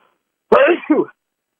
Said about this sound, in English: I'm going to sneeze. Hold on, please.